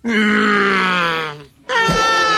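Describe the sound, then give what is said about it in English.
Voice actor Maurice LaMarche imitates a bear for an animated series, with a long, loud, harmonically rich groaning roar that slowly sinks in pitch, breaks off briefly, then resumes with another rough, sustained bellow. “That's Maurice LaMarche doing a lot of great animal noises throughout the series. Bear noise is great.”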